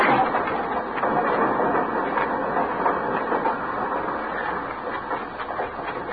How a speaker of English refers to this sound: Get on the train